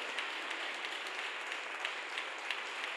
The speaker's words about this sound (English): We can clap for him the whole day if we want. Hallelujah.